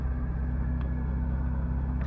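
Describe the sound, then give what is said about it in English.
A car engine idles in a steady, low rumble while waiting in a line behind 3 or 4 cars; the hum stays constant, with a couple of faint clicks and no voices. “And there's a line of 3 or 4 cars in front of me now, and then they'll hear from the greeter.”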